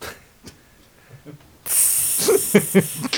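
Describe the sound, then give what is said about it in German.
A sharp, loud hiss of water hitting a hot stone bursts in suddenly and sizzles steadily, with a few crackling pops, after a quiet stretch of faint clicks. “Hört ihr das? Das ist der Tropfen auf dem heißen Stein.”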